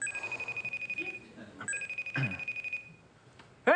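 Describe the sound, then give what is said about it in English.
A phone's FaceTime video-call ringtone chimes in steady pulsing tones, clear, pausing briefly before ringing again, with a rising chirpy sweep at the very end, as a FaceTime call is placed to President Biden. “You want to call him? Let's FaceTime him.”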